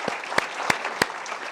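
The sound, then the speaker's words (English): An audience applauds the panelists at the end of an Atlantic Council panel event, with steady, dense clapping, a few sharper claps standing out at a regular beat within the broad wash of hands. No voices. “Please join me in giving a round of applause to our panelists.”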